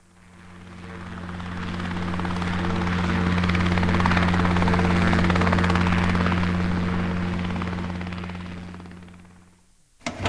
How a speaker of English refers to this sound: I've just arrived back in a helicopter.